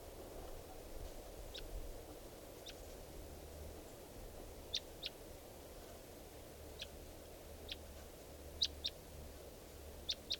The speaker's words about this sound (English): We're recording at 3:10 p.m. and there's a wild bird here. And I think it could be the male who I missed before, the mate of this female.